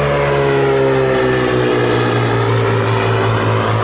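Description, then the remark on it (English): A four-passenger Cirrus SR-20 propeller plane's engine drones loudly and steadily, with a strong low hum and rising harmonic tones as it revs up for takeoff, leaving Cirrus Design's new airplane production plant in Duluth, without any voices. “Aviation is literally taking off, much like this four-passenger SR-20 airplane leaving Cirrus Design's new airplane production plant.”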